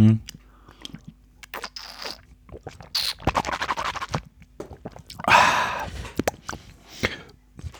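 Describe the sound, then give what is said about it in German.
Mouth sounds of someone sipping water: a few wet slurps and gulps, soft clicks and rustles of a glass or bottle being handled, with no one talking. “Ich nehme vorher noch mal einen Schluck Wasser.”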